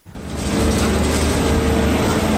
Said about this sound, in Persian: صدای لودرها در عملیات جستجو به دنبال اجساد گروگان‌های کشته شده در نوار غزه. اسرائیل اجازه جستجو در منطقه از غزه را داده که همچنان در کنترل ارتشش قرار دارد.